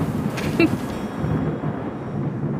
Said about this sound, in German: Der Donner ist nämlich das Geräusch vom Blitz und das braucht länger zu uns als der Lichtblitz.